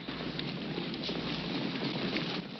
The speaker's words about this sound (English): The riderless horses are still thundering around the fort, creating a dense wall of dust.